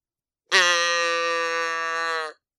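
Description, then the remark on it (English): A person imitates a cow with a single long, steady moo, held for almost two seconds. It is loud, with nothing else heard around it. “Moo. Moo.”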